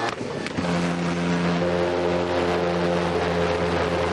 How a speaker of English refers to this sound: And Nick uses his leaf blower to get the dangerous pulse jet started.